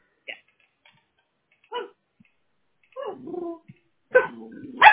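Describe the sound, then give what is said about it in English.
A small 15-pound female mixed-breed rescue dog barks in short, separate bursts: two quick yips, then a longer, louder run of barks near the end, with no talking. “Oh, I hear the doggy in the background.”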